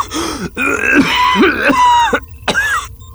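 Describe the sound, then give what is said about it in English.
A voice acts out a raspy, voiced coughing fit of a sick prison inmate: several harsh hacking bursts mixed with throaty, strained groans, loud, with no other talk around it. “He broke off into another coughing fit.”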